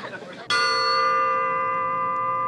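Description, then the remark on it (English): A single bright ding like a struck triangle or small bell rings out after a moment of voices, its clear high tone sustaining steadily to the end without fading much. “Nice tone, isn't it? I used to play the musical triangle at school.”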